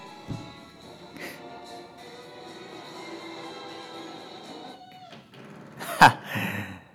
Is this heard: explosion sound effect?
no